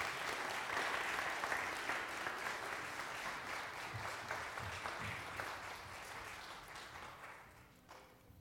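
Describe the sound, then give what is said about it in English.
A church audience claps steadily for the children's church (kindergarten through fourth grade) at a worship service, a dense wash of many hands sustained for several seconds before thinning out and fading toward the end. “Children's church, and let's give them one more round of applause here.”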